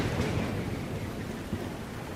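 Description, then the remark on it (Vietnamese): A steady, heavy rumbling roar of a mountain landslide during flood rains in A Hu village, A Tiên commune, Tây Giang district, Quảng Nam province, Vietnam, deep and continuous throughout, with a broad hiss of noise over a low, churning rumble and no voices. “Con vừa nghe tiếng nổ ầm ầm bên tai. Nổ núi con ơi, lở kìa, mày có nhìn thấy không?”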